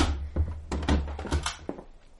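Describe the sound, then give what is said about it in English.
A heavy door among rubble in England being opened into a cellar, with a series of dull wooden thunks and a scraping rumble over a couple of seconds, settling into a quieter creak at the end. No one speaks. “Open the door. Here goes.”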